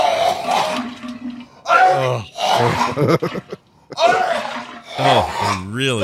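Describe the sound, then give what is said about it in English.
Thick canned vegetable soup slides out of a can in a run of five loud, wet, gloopy squelches, each with a groaning, warbling pitch that bends up and down. “You can hear the veggie soup coming out of the can and right into the can.”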